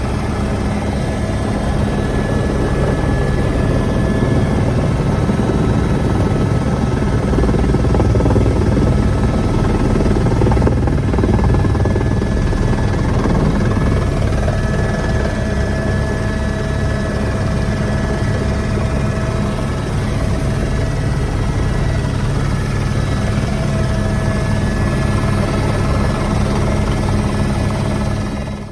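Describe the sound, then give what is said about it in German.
A helicopter flying over a volcano drones steadily throughout, its loud rotor and engine noise forming a dense low rumble with a constant mechanical whine above it, and no voices. “Aber ich habe zweimal die Chance gehabt, mit dem Helikopter über den Vulkan zu fliegen.”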